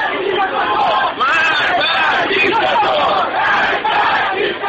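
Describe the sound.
A large crowd at a rally outside the old U.S. Embassy in Tehran, Iran, chants slogans including "death to America" and "death to Israel" in loud, rhythmic unison, many voices shouting together continuously with brief dips between phrases, dense.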